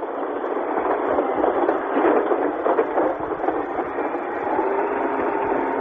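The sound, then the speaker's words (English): Three huge bulldozers grind and roar as they smash through huge earth walls, mounds and reinforcement fortifications that divided the city of Beirut, Lebanon, as barricades come down. A dense, steady wall of engine noise and scraping holds at a constant loud level throughout, with no voices. “Three huge bulldozers are now smashing their way through the huge earth walls and mounds and reinforcement fortifications which have divided this city for the last 6 months.”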